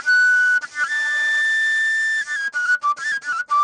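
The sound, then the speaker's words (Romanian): A tilinca shepherd's pipe, a simple tube, plays alone to call sheep to the sheepfold, with a shrill, breathy tone: a long held high note, then a run of shorter notes stepping up and down in pitch. “acesta este tilinca, ca să-i spun eu, nu știu dacă e un instrument, dar este o țeavă din care se poate cânta.”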